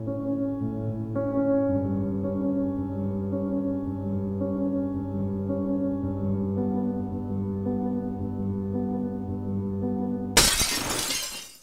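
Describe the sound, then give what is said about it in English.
Steady, droning musical tones play for about ten seconds, then a white ceramic plate of spaghetti suddenly crashes onto a checkered tile floor and shatters, a loud, bright burst of breaking that rings out briefly before the sound fades. “The spaghetti slaps the checkered tile floor, a wet smack followed by the ricochet of white ceramic shards.”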